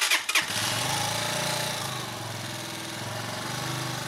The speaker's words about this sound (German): Dann geht er aus dem Haus und setzt sich auf sein Moped. Er rauscht durchs Dorf über die neue Umgehungsstraße in einen Waldweg.